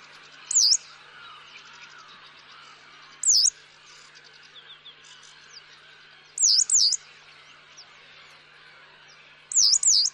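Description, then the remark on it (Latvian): A yellow wagtail gives short, high, buzzy calls, four brief bursts spaced a few seconds apart, clear over a soft hum of insects and other birds. “Runājot par to, ko var darīt šo putnu dzeltenās cielavas un līdzīgi putnu labā, tas ir ļoti sarežģīts stāsts”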